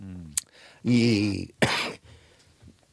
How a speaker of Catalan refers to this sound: No, és que des que he deixat de fumar, tinc brots psicòtics de tos.